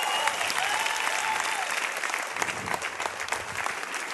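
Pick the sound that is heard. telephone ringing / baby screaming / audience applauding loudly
audience applauding loudly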